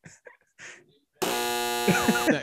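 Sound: buzzer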